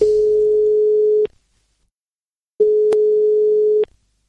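A steady telephone ringback tone sounds twice, each buzz lasting just over a second with a pause between, clear, as an outgoing call is placed from radio studio Midgard, waiting to be answered.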